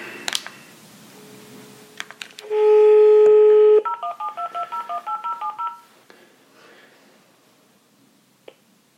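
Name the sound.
telephone dialing tones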